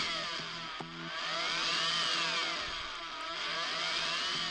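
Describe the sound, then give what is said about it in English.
A Russian techno-style rap track plays, dominated by a loud, buzzy synth drone whose pitches sweep up and down in arcs, with a steady dense texture and no talking over it. “Sounds very techno-ish, right? It's like it's not considered rap over there unless there's techno.”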